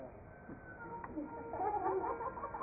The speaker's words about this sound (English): If anyone will hear the voice of that what? Hen. Hen. Then he will next life become a hen.